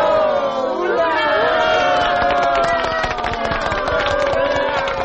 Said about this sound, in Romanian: A urmat aclamații entuziaste și aplauze.